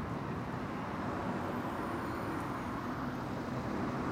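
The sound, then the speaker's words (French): A steady, continuous rumble of road traffic, cars and heavy trucks rolling through the middle of the village of Becherel, with no pauses and no voices. “Me demande aussi pourquoi il y a tant de voitures et de camions qui passent en plein milieu de ce magnifique bourg qu'est Becherel.”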